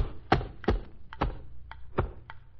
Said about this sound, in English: Why don't you shake it? That way maybe you can tell what's in it. Ah, I guess it won't do any harm to shake it. What a dull gift. It don't even gurgle. You don't know how to shake. Give it to me.